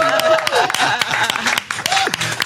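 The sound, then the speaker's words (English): Steady, dense clapping from an audience fills the whole stretch, with a few rising and falling shouts or whoops riding on top of the applause. “Louder applause.”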